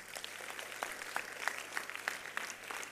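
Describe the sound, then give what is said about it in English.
A church audience claps for Jesus, with many overlapping hand claps forming a dense, continuous patter and sharper individual claps popping out at a fairly even rhythm. “Clap for Jesus.”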